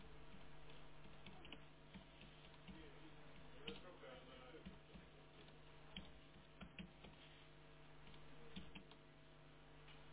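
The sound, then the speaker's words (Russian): Someone types on a computer keyboard in short, irregular bursts of soft clicks, over a steady low electrical hum, with faint background murmuring. “Ой, бляха-муха, не там печатаю.”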